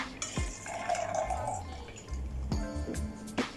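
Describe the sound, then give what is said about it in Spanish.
Mineral water is poured into a glass already holding ice and Chivas whisky while a mixed drink is made, a steady splashing gurgle with a rising fill tone, broken by a few clinks and short bursts near the end. “Agua mineral.”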